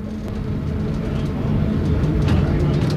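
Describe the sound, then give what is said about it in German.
A steady, loud low rumble of a locomotive train running through a mountain tunnel, just past tunnel window 4, droning continuously with faint metallic clatters and knocks on top. “Der Lokzug ist gerade am Fenster 4 vorbei,”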